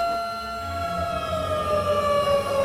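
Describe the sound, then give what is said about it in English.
A loud alarm siren wails steadily, its tone sliding slowly downward in pitch over a low rumbling background, with no voices present. “The alarms still work.”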